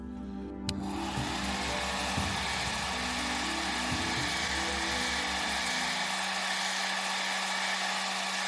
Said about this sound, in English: As he was doing this, he was startled to hear the sound of a blow dryer coming from another area of the home.